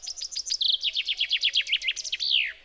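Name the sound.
chaffinch song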